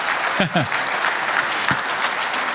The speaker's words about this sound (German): Ja, Applaus macht es immer leichter, auch für uns hier oben.